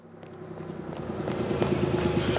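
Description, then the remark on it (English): A bus engine rumbles and revs as it pulls away, the low droning hum growing steadily louder and rougher over a couple of seconds, with no voices. “Oh no! The bus! The bus!”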